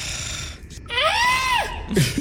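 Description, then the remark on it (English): A person imitates a screaming goat, voicing a goat character, with one loud, strained vocal bleat that rises and then falls over about a second, with no other talking. “And in order to undercut Kyborg's attempt at sounding cool, I just scream again as a goat.”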